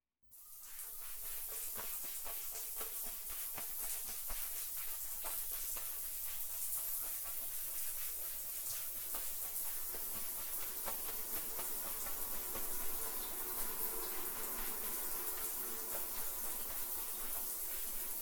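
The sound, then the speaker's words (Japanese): Steady running water streams for the whole stretch as a customer's hair is washed at a salon while seated in a salon chair, a broad continuous hiss like a shower spray rinsing hair, with faint shifting splashes and no voices. “はじめに洗髪をさせていただきますね。”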